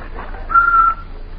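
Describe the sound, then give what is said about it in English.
A person whistles a short, clear note that steps slightly in pitch while cleaning the house, held for about half a second, moderately loud, with no talking. “Whistle while you work.”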